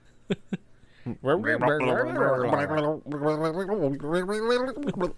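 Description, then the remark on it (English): After two quick clicks, a voice gargles and warbles in a wobbly, bubbling tone, imitating an alien underwater. The gurgle comes in two long, loud bursts with a shifting pitch. “That sounded like an alien underwater.”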